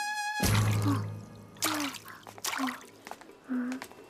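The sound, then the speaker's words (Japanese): Water splashes in several short bursts, roughly four separate scoops, fairly loud, each with a brief sloshing drip, following a faint ringing tone at the start, as goldfish are scooped at a festival, the scoop entering the water at a 45-degree angle. “阿波連さんは金魚すくいの達人”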